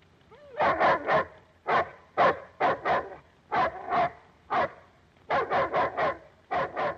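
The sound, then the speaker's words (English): A chained-up dog barks repeatedly in quick bursts of two to four sharp, mid-pitched barks, with short pauses between groups and no talking. “Matt looks out at the chained-up dog.”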